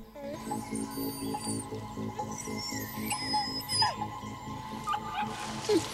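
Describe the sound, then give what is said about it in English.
A young wolf cub that has ventured out alone lets out thin, high-pitched whimpering cries in short bursts, while a low voice talks underneath throughout. “She-wolf leaves the den when she hears its cry.”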